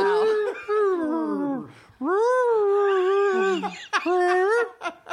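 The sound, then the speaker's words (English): A person imitates whale song with long, gliding, moaning vocal tones that rise and fall, sung in a few drawn-out phrases, fairly loud, with no other sounds behind. “I'm sorry, did that whale just ask, "Are you close?"”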